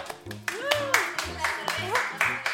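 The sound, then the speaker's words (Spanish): Rhythmic clapping from a group welcoming a band live in the living room of Radio Sur, José C. Paz 3078, Parque de los Patricios, on the show Graves y Agudas: steady beats about twice a second, with voices whooping and calling over it and a low tone underneath. “En la columna Llave Maestra, que otros sean lo normal, tenemos en vivo, en el living, a …. ¡Aplausos!”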